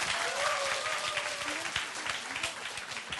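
A small group of audience members at the program 영미문학관 claps steadily for a few seconds, a dense patter of overlapping hand claps at moderate volume, with faint voices and a brief tone audible underneath.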